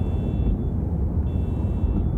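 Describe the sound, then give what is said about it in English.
A car alarm sounds a thin, high steady tone that cuts in and out, over a heavy low rumble with no voices, on a snow-covered street under a dark sky. “It's totally silent except for the car alarms blaring down.”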